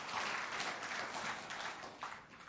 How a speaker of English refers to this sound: Give the Lord a clap. Not me, because... Amen.